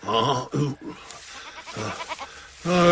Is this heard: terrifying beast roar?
no